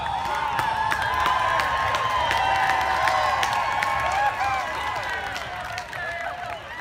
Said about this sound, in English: Eventually, the police are called to disperse the students. In response, the crowd, almost all white, cheers.